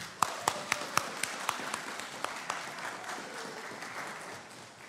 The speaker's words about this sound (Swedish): Jag tycker att vi ger en stor applåd till våra fantastiska ungdomar och barn och ledare.